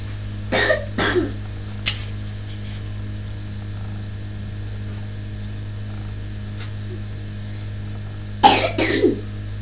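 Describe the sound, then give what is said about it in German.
A person coughs twice in quick succession near the start, then after a long quiet stretch coughs twice again near the end, all over a steady low electrical hum. “Tut dir das eigentlich weh beim Husten”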